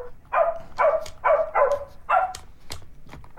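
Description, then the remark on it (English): A circuit-bent Baby Einstein toy piano plays a dog bark sound five times in quick, even succession, bright, followed by a few faint glitchy chirps and clicks. “And he's circuit bent a kid's toy, a baby Einstein piano.”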